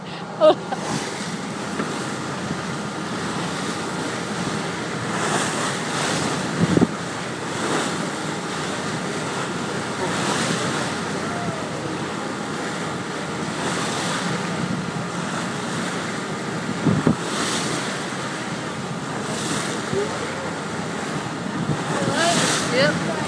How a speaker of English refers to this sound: sun's shining, and the water, you can see right through to the bottom. The water is just that clear. It's absolutely beautiful. You can probably hear the waves. I'll shut up and just let you listen to the waves of the boat.